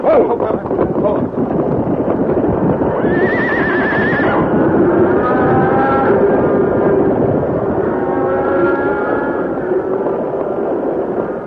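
A loud, continuous rumble of a stampeding cattle herd with pounding hooves as the cattle hit and break through a fence, sweeping past the Lone Ranger and Tonto on their horses, which whinny and neigh sharply over the din, unbroken throughout.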